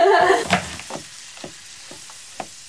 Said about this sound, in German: Wir sollten mal anbraten, oder? Wir sollten mal die Sache mit dem Kochen ernst sein.